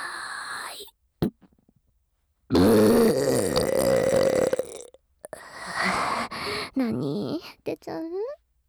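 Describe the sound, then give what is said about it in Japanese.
A loud, drawn-out burp rumbles for a couple of seconds, followed by a few shorter, breathy vocal bursts and sighs. “くっさいゲップぶっこかれて、おまぬけ射精しちゃうんですか？”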